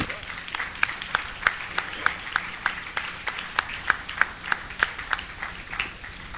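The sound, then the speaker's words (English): An audience claps in a steady, even rhythm of sharp hand claps, about three per second, over a low background murmur of the crowd. “Yeah, somebody clap.”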